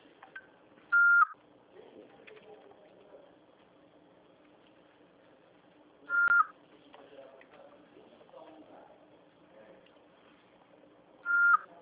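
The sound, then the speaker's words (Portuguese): Three short, steady electronic voicemail recording beep tones at a medium-high pitch, each loud and clear and spaced about five seconds apart, with only faint low background noise between them. “Após o sinal, fale o seu nome e deixe o seu recado.”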